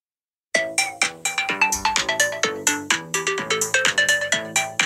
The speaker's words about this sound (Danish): kan pakke, den der synthesizer, du fortalte om, som jo var et ordentligt skrummel før i tiden, ned i en app på en telefon. Nå, nu ja. Prøver vi at lytte til det her, og jeg advarer, det lyder ikke som rigtig musik, men noget, der minder om det.